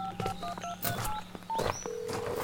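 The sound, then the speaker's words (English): A quick run of short cell phone keypad tones, several beeps in irregular succession, ending with a longer steady tone over a faint low background hum. No one speaks. “I better call Jason. I'm not getting a signal on the cell phone.”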